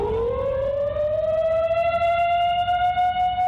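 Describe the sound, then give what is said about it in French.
A prison alarm siren goes off after an inmate's escape, wailing and rising steadily in pitch, then holding a loud, sustained tone over a low rumble, sounding alone without any voices. “C'est à ce moment-là que la sirène se déclenche.”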